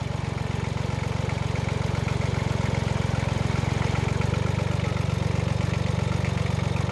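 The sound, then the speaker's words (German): An old red truck's engine idles steadily, a loud, low, rhythmic chugging that holds constant for the whole stretch with no voices over it. “Einmal kam ein alter roter Lastwagen über das Land gefahren, fuhr über die Landstraße, fuhr über den Hügel und kam in unser Dorf.”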